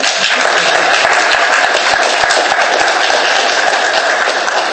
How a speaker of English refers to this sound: And we would just all like to give each other a mutual clap. We'll clap you and you clap us. Go.